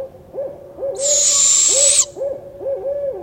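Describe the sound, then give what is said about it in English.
A barred owl fledgling's raspy, hissing begging screech runs for about a second, while a male owl's deep two-phrase hooting rolls on steadily underneath and continues after it stops. “And finally, here's a fledgling begging call and the male two-phrase hoot.”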